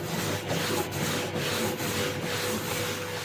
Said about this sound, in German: Das ist ein Gerät, auf dem kreisförmig ein Abrieb stattfindet. Also oben ein Schleifpapier, unten das Material und dann dreht sich das.